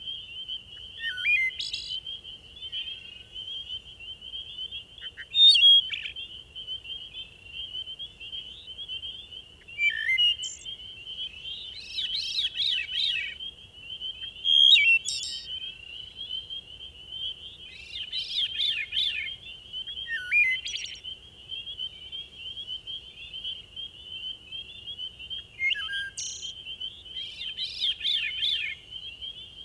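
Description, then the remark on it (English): Flute-like songs of a wood thrush and a veery ring out in repeated phrases every few seconds at dusk in eastern North America, over a steady high insect drone, with no voices present. “A wood thrush brightens the twilight with flute-like song, and a veery soon joins in, adding its ethereal melody to the evening chorus.”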